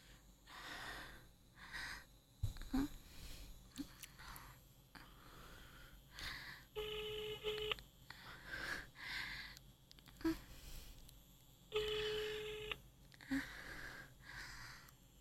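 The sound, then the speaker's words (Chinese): A phone ringback tone sounds twice as someone places a phone call, each burst about a second long and several seconds apart, with heavy breathing and sniffing filling the gaps between rings. “我给你们打个电话啊，你们不是喜欢听我一边自己弄的时候一边打电话吗？”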